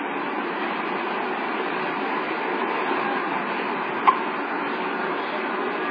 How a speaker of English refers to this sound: Okay, so there's a train over there.